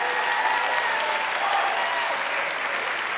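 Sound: audience applauding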